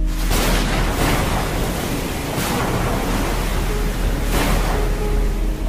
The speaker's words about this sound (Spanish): La noche se tornaba sombría. La escasa iluminación de las calles era absorbida por la oscuridad, llenando todo de penumbras que solo se acompañaba por el sonido de la lluvia golpeando el asfalto.